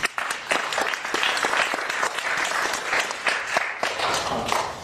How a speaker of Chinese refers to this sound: 在这里我想代表耶稣，代表每个弟兄们呢，祝我们在座的每一位妈妈们呢，母亲节快乐！我们给每一个妈妈一个掌声，好不好？